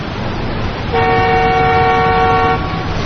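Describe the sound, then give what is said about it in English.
A single sustained bus horn honk blares for about a second and a half over steady traffic rumble, loud, with no one speaking. “I think that's your bus.”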